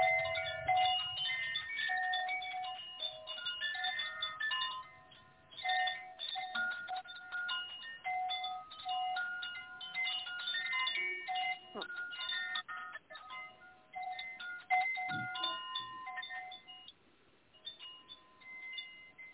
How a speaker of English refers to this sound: And now this next inhale, let yourself relax and tune into the sound of the chime.